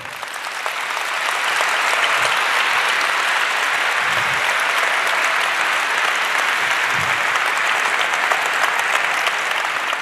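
An audience applauds steadily as a talk on intelligence agencies' surveillance programs by Hans-Christian Ströbele and Constanze Kurz is introduced, a dense wash of clapping that swells in the first second and holds at an even, loud level for about ten seconds without any talking.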